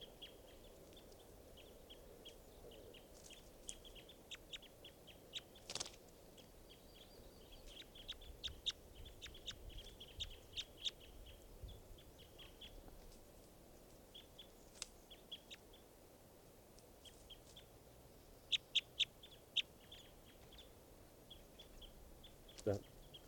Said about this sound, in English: So recording now, bird 515.